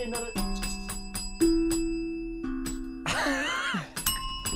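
A small bell struck over and over, its bright ringing tones overlapping and sustaining between hits, with a brief noisy burst partway through before the ringing continues.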